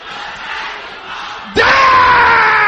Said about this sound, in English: Can I hear you shouting this loud and clear?